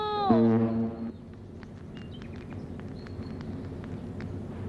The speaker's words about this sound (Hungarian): Ezen túl minden hajó dudálni fog, aki találkozik a Ramónával.